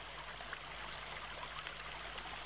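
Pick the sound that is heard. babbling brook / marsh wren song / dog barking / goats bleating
babbling brook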